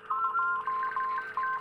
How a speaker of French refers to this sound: Mais tita-ta-tit, ça devient une autre lettre. C'est toute une combinaison de points et de traits pour faire l'alphabet morse.